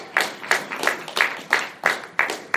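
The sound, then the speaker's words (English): Rhythmic audience applause, about three claps a second in a steady beat, sharp, with no talking underneath, like a small group applauding in unison. “Yes, thank you for that rousing applause.”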